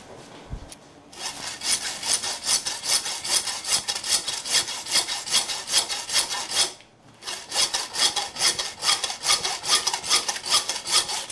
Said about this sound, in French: Alors c'est la scie.